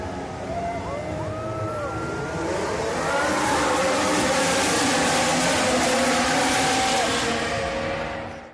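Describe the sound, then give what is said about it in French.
Race car engines at the start of the Italian Grand Prix at Monza rev with rising, whining pitch sweeps, then swell into a loud, sustained roar as the cars pull away together, intense throughout. “Alors sans plus tarder, mesdames et messieurs, démarrez vos moteurs et c'est un départ.”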